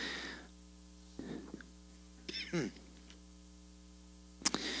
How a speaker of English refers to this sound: And I hear pages turning. That's exciting. Thank you for bringing your Bibles to the house of the Lord.